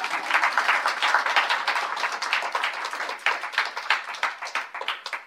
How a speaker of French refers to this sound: Merci d'avoir participé, on peut l'applaudir bien fort.